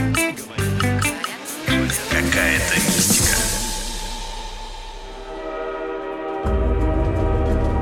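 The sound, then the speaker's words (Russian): A metro train rumbles loudly through a tunnel, its steady roar joined by a rising, wavering electric motor whine and rattling carriages, the noise swelling again near the end. “Вот едем мы с вами в метро.”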